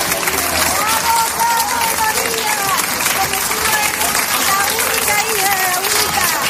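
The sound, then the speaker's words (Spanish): A crowd in Seville cheers and applauds steadily as the period hearse carrying the remains of a singer passes in her funeral procession; dense clapping mixed with many overlapping shouting voices, loud and continuous from start to finish with no pauses. “Al paso de la carroza fúnebre de época con sus restos mortales, no faltaron los vítores y los aplausos.”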